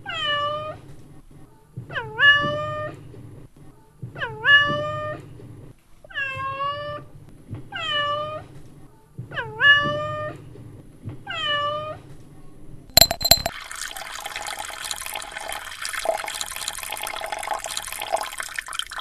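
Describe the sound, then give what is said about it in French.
In a barn, a cat meows about seven times in a steady, evenly spaced series, each cry clear, before a burst of noisy splashing, pouring liquid as the cat knocks over milk. “Pilou rencontre un chat qui renverse du lait.”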